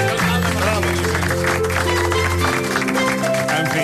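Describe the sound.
A steady patter of applause for a film, fairly subdued and unenthusiastic, runs for a few seconds over a low sustained hum, with a murmur of voices mixed in.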